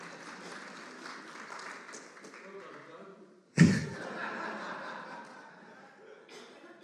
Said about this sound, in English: And here he is in person. Brian the robot. Yeah, it's worth a round of applause. Don't feel shy.